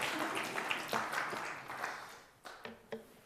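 A small audience claps together in a steady, moderately quiet burst that fades after a couple of seconds, leaving a few scattered final claps.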